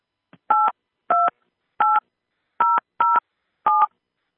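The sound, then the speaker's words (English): Six touch-tone keypad beeps are punched in at an uneven pace, each a short, steady dual-pitched tone entering a PIN on a conference call phone line, with a faint click before the first and no voices. “Please enter your PIN followed by pound.”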